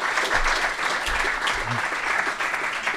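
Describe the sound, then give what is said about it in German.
A crowd at a quiz night at the Lettretage claps steadily and loudly throughout, a dense wash of many hands with no break, the applause filling the whole stretch evenly. “Applaus. Bravo, bitte nochmal.”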